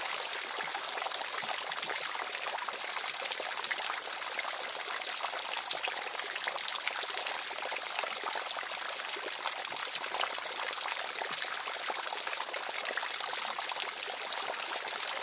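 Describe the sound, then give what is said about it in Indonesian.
A steady, unbroken rush of flowing water, like a waterfall, holds an even hissing roar throughout with no pauses or voices. “air terjun pun terpisah, membuka jalan rahasia gua.”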